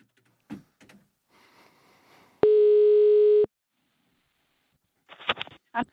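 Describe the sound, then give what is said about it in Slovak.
A telephone ringback tone sounds once while calling another number, a loud steady buzzing hum lasting about a second, with faint clicks and line hiss before it and a short burst of voice afterward. “Tak ešte mám jedno číslo.”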